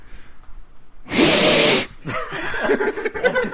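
Loud sniffing right against a new microphone that smells like ginger: one long, forceful airy inhale, then a run of quicker, rougher sniffs and snorts following in uneven rhythm.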